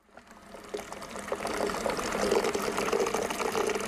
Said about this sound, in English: A worker prepares water to be used to make beer at the Black Horse Brewery in the Magaliesberg Mountains.